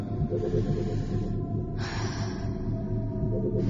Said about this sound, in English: You should begin your breathing exercises now.